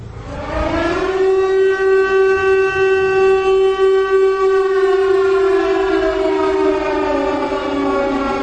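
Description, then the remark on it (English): An air raid siren winds up and holds a loud, steady wailing tone with rich harmonics for several seconds, then begins to slowly fall in pitch. No voices are heard. “It wasn't until a few years ago I started playing air raid sirens almost every day that really highlights we're in crisis.”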